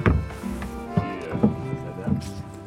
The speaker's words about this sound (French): Il est 9h du matin sur les bords de Loire. On est près de Tours. Et voilà un magnifique bateau sur le ponton où je suis. Alors je monte.